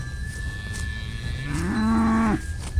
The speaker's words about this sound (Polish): Jak na nie tata przychodzi z pracy, to właśnie ona ten ciągle, żeby ją doić, tak tak wyje. Mama tam wchodzi, ale ona nie, bo ona tatę chce.